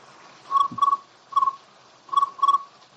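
insect, crickets chirping

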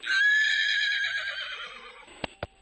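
animal, horses trotting and neighing

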